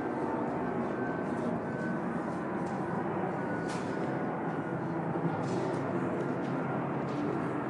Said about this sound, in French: juste attendre l'avion de nouveau.